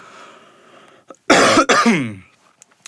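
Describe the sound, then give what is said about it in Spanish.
Two harsh, loud coughs from a Christmas cold in quick succession, the second trailing off with a slightly voiced, throaty rasp, after a moment of quiet background. “Después, esta tos, la patrocinan los resfriados navideños.”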